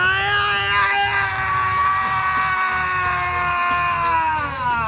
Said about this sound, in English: Can you scream a couple?